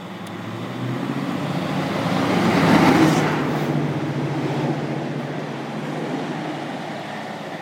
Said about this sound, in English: I'm sure that was an old diesel train, and I'm sure it said the Celtic Aberdeenian.